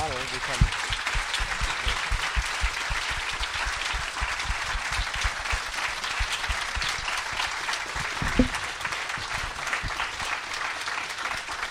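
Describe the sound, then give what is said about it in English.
Sustained applause from a sizable audience for author Robin Hobb at the close of a festival session, a dense, steady wash of many hands clapping for about twelve seconds without letting up. “Je pense qu'on peut applaudir Robin Hobb.”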